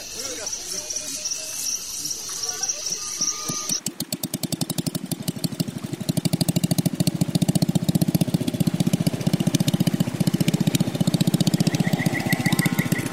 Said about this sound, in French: Samedi, de nouveau la pirogue à moteur. On tourne à droite sur le Rio Madre de Dios, direction Puerto Maldonado.